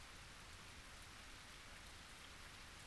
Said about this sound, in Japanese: 夜になって明かりも少ない。この公園には私と君だけだね。 虫さんの鳴き声すらない。あるのは雨の音だけ。雨がザーザーザーザー降ってるだけ。